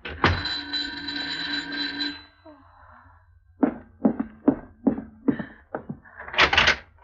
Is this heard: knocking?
yes